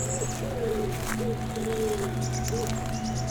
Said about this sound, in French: Vous entendez non seulement des oiseaux et un bruit de fond, le vent. Et le ruisseau qui s'engouffre à travers ce dédale de chaos granitique.